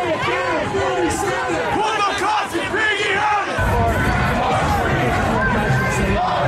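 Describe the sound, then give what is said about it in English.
Protesters in the street during President Trump's inauguration in January shout and yell continuously as police push them back so firefighters can reach flames. Many voices overlap in a loud, chaotic roar of raised cries, with a dense wash of noise thickening partway through. “Police had to push back the protesters so firefighters could get to the flames.”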